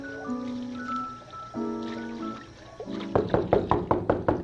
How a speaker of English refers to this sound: Somebody at the door again.